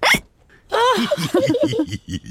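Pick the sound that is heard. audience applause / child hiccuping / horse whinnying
child hiccuping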